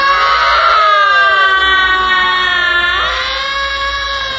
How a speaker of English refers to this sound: All around him, the newly dead were screaming, screaming. He threw back his head and opened his mouth. And he, too, began to scream.